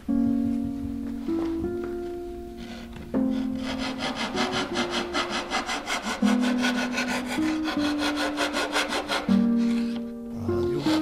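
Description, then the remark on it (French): A small Japanese hand saw cuts through wood in quick, steady back-and-forth strokes, fairly loud, with a faint ringing tone under the rasp and no one talking. “Et ces petites scies japonaises sont excellentes et très utiles pour faire des, pas forcément des petits travaux, aussi des gros travaux.”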